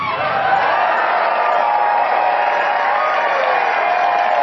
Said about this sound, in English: What are the rubes cheering at? Anybody want to help me with this?